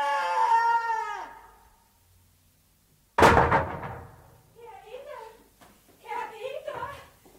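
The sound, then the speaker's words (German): A sudden loud crash of drawers being thrown to the floor, clattering briefly before dying away. It follows a high, drawn-out vocal cry and is followed by people talking. “Jetzt hat er die Schubladen runtergeschmissen.”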